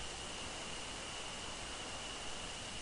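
A steady, hissing rush of ocean surf washes continuously without any clear rise or fall, a soft, even wall of water noise with no voices.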